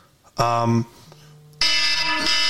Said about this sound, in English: I forgot there was an alarm set. That sounds terrible on the microphone.